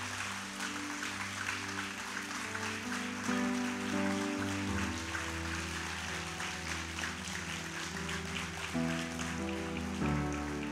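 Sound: audience applause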